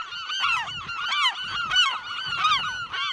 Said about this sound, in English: NPR science correspondent John Nielsen traveled to the barren Farallon Islands off of San Francisco this year in search of the rare Cassin's auklet. Before he could reach that tiny little bird, he was accosted by massive colonies of western gulls.